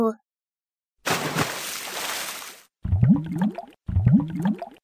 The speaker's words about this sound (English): Splash! The wolf lands in the soup. It's so hot!